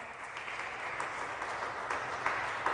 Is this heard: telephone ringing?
no